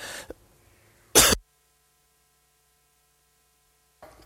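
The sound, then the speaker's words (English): A single loud cough bursts out after a brief rustle, followed by a long stretch of near silence with faint background hum and another small noise at the end. “And so I have to cough. Hang on just a second.”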